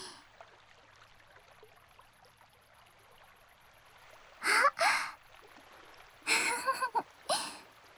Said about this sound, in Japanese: 夕方の風も、水音も、こんなに涼しいのに。